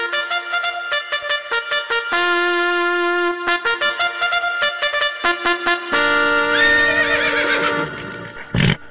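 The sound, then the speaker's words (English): A horse neighs loudly, a long, quavering whinny that rises and falls in pitch over several seconds, ending with a short snort. “that horse scares me. It's getting ready to run.”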